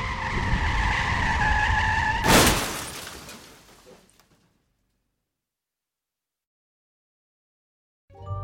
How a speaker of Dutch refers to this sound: En dan op een half uur rijden eigenlijk van haar eigen woonplaats, raakt ze met haar auto in een slip en crasht.